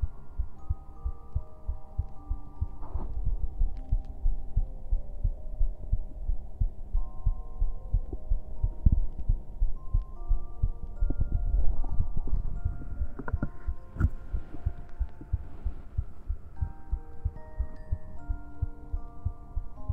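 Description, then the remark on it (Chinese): A steady heartbeat thumps low throughout, its rhythmic double beats repeating evenly under a soft, humming tonal background, with no voices present. “听着我的心跳，我也感受你的心跳，心贴着心的感觉，真好。”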